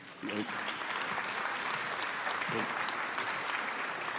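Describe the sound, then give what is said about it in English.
A Boston comedy-show audience applauds a comedian being introduced, a dense wash of clapping that starts abruptly and holds at an even, loud level throughout, with a couple of brief low murmurs or shouts mixed in. “And for those of you who don't know, and so you didn't applaud, because only a Boston audience go, well, I haven't fucking heard of that.”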